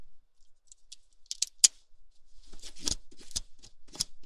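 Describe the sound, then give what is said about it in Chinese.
A pen scrapes and rubs across lace-patterned synthetic stocking fabric in a series of short, scratchy strokes, fairly quiet, coming in irregular bursts with no talking, as the pen is hooked on the fabric to show it does not snag. “你看这支笔，我在上面勾一下。”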